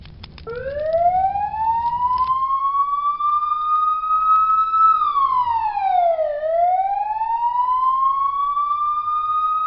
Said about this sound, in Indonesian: Tak lama kemudian, mobil pemadam kebakaran datang. Dengan sigap, para petugas bekerja keras memadamkan api di rumah Bagus.